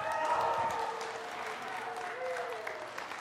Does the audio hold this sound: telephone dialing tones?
no